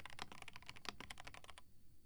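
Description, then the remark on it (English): Rapid, uneven clicking of keys on a computer keyboard, fairly quiet, a steady flurry of keystrokes that stops abruptly near the end, with no voices. “Just keyboard sounds until you fall asleep, okay?”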